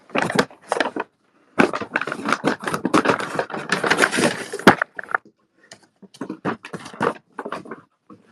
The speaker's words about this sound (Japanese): 今めちゃめちゃ、開封してます。今、お誕生日企画を行っているので、その紙袋は解体をしています。